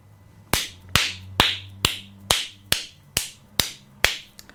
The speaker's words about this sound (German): Yeah, klatschen tut auch sehr gut.